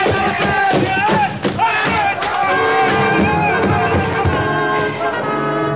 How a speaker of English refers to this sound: As the crowd before the reviewing stand milled in hopeless confusion, the elephant of the bearded stranger reared, trumpeted, and crashed into the wooden structure.